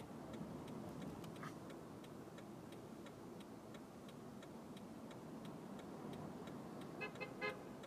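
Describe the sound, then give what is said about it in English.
A steady wash of street traffic rumbles throughout, then a car horn honks in a couple of short bursts near the end, cutting through the noise. No one speaks. “The fact that no one can turn into the street we're trying to turn into, combined with all the pedestrians and all this other stuff, you honking totally makes all this possible.”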